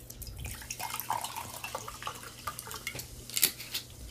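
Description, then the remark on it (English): Sparkling water is poured into a glass, a busy fizzing crackle of bubbles with small clinks and drips, steady for a few seconds with a brighter burst near the end. “So let's try the sparkling, and then we'll do bottle cap ratings on both, yeah?”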